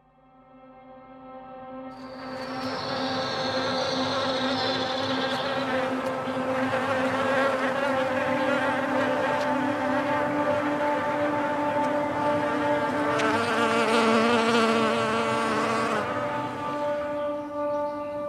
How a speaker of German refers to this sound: Also wir hören jetzt den Käfer. Genau, Herr Käfer.